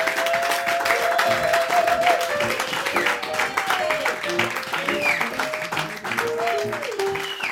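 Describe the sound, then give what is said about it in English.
An audience applauds singers who are about to perform, a steady, dense, continuous wash of many hands clapping, with cheers and whoops rising over it throughout. “Give my babies a great big round of applause because they're going to come and sing for you.”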